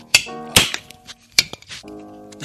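Beer glasses clink together in a toast at the end of 2019, a few sharp bright taps spaced over a couple of seconds, with ringing tones trailing after each contact and no talking.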